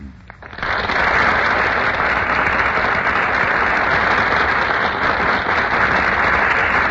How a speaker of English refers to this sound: Ladies and gentlemen, that burst of applause is for Madeline Carroll and Melvin Douglas, who have just made their entrance on our Gulf Theater stage.